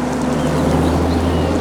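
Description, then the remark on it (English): A car engine rumbles steadily, a low continuous drone with no change in pace, as the car sweeps round a curving tree-lined drive and pulls up at the entrance of a red-roofed building, while faint chirps flicker in the background. “Their car sweeps round it towards a pleasant red-roofed building and pulls up at the entrance.”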